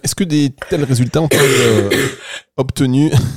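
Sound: cough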